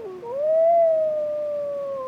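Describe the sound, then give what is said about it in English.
A lone wolf howls across the tundra in darkness. One long, steady note rises briefly at the start, then holds and slowly sinks, sounding faint and far off with no other sounds around it. “For in the darkness, echoing across the tundra, came a call she never wanted to hear.”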